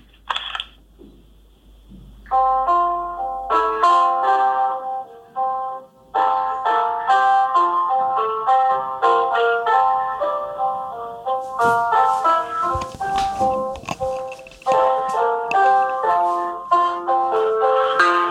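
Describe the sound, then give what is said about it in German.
A melodic piano passage played alone from memory without sheet music, a steady flow of clear, bright notes with a gentle repeating rhythm, fairly loud with a few brief pauses between phrases. “Ich habe ein Klavier doch hier, das weißt du, ne?”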